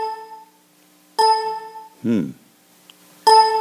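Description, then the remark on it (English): A bell, sounded instead of a click during a talk about Palm Sunday, chimes three times. Each strike rings out with bright, layered overtones before fading, and a short vocal sound comes between the second and third chimes. “Is there a reason why we're getting a bell instead of a click?”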